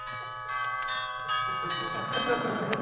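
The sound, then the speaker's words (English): A doorbell rings with bright, sustained chiming tones, struck repeatedly in quick succession so the ringing overlaps and builds, fairly loud, with faint murmuring voices underneath. “Where's the doorbell? Oh, here it is.”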